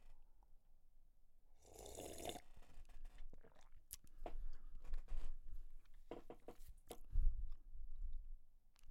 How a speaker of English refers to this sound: I walked this shit to the counter and paid for it. And now I am sad as I sip.